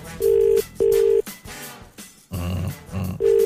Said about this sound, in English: That's line 2. It's ringing.